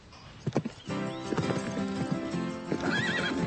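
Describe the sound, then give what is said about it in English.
A few sharp hoof clops ring out, then a horse lets out a long, loud whinny with a wavering, trembling pitch that carries on to the end. No one speaks. “So, do you ride? Oh, no. I hate horses.”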